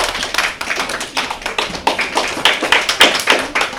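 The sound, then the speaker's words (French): Audience applause for a correct quiz answer: a steady, dense patter of many hands clapping at once, fairly loud and sustained for several seconds with no voices over it. “On peut les applaudir.”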